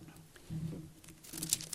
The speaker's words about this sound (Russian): Я переверну страницу и окончание этой главы прочитаю.